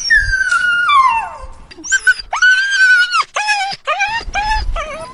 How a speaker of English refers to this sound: That big tough killer dog squeals like a stuck pig, tucks his tail so far up his sass, it tickles his tonsils,